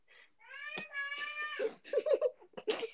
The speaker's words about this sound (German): Da schreit gerade im Hintergrund meine Schwester. Ihr hört mal.